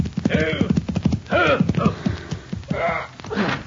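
A horse clip-clops and is reined in to a stop by its rider before the Convict Valley Cafe, hoofbeats mixed with snorting and whinnying sounds over a few seconds.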